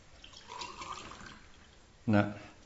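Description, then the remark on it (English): Water pours steadily for about two seconds, a soft splashing trickle, before a brief louder, tonal burst cuts in near the end. “No miracles yet, it's still water.”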